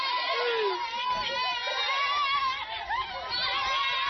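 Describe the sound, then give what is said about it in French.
A dense crowd cheers and shouts continuously, many voices overlapping in loud, excited jubilation with high-pitched cries rising above the din throughout, as a young woman is welcomed home in triumph after passing her BPC exam, in the Apoya neighbourhood. “est accueillie triomphalement chez elle. Dans le quartier d'Apoya, la résistance prend place.”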